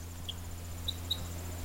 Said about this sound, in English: That little kip, kip, kip sound, that's the purple finch.